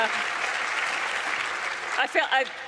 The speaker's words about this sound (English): We will get you to cheer for each of these in turn. So we'll start from the top.